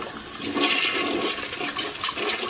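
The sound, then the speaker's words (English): A home toilet flushes for no reason, a steady rushing gush of water that swells and churns for a couple of seconds with no voices present. “But then her home didn't have a toilet that flushed for no reason.”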